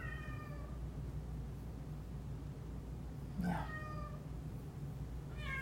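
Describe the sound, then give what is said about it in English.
A cat, Chica, meows three times, drawn-out tonal cries spaced a couple of seconds apart, over a steady low background hum with no talking. “Hey, you're gonna need to put your cat outside.”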